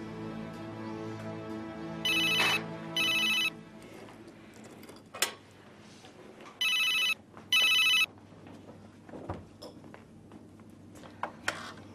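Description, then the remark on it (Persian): A telephone rings in two double bursts, each a pair of bright, buzzy electronic trills with short gaps, clear over a faint low hum and a few soft clicks. “شما گوشی خدمتتون.”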